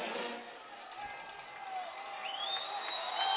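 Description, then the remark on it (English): A stadium crowd at an American football game roars and cheers in a steady, dense wash of many voices that swells toward the end, with a few shrill whistle-like tones rising over it. “Guys, we need the help from the crowd right here. Loud, the band, the help.”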